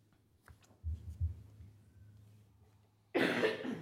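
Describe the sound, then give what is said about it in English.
Quiet room tone with a few dull low thumps, then a sudden loud, harsh cough that continues to the end, from a lawyer speaking for the United States at a court hearing. “I have a terrible cough, and I will try not to interfere too much.”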